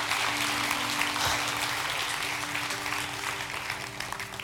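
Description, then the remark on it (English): An audience at a church service claps steadily for several seconds in celebration, a dense, continuous wash of many hands with a low sustained tone humming underneath throughout. “Come on, can we clap?”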